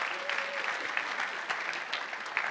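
A crowd of people claps steadily, a dense, even wash of applause with no pauses, moderately loud throughout the short stretch.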